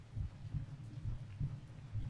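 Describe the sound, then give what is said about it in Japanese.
A calm, slow heartbeat thumps steadily in deep, muffled, even pulses, with no voices or other sounds around it. “呼吸も鼓動も穏やかになってきた。”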